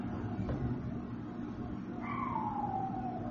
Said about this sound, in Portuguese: Tem um cão dos infernos chorando aí.